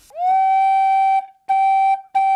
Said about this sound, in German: Es gibt also einmal Orgelpfeifen, die funktionieren im Prinzip wie eine Blockflöte. Da ist also ein Labium, also eine Schneide, auf die ein scharfer Windstrahl gerichtet ist. Und das klingt dann eben wie eine Blockflöte, zum Beispiel so.